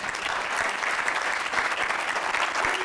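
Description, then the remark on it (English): A room full of people claps steadily and loudly for a few seconds, dense overlapping hand claps forming a continuous wash of applause with no one speaking. “Give her a clap.”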